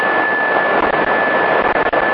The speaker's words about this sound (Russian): Только у вас, я так понимаю, двигатель работает. Там вот это жужжание от автомобиля.